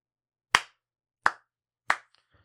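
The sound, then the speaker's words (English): A single woman claps three times in a slow, steady rhythm when no one else claps, each clap sharp and crisp with a quick decay, followed by faint rustling and no other applause. “And she claps.”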